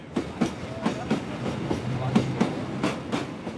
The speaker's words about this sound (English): As our train sets off, only an hour late, I think about the many people I've met on my journey to the south.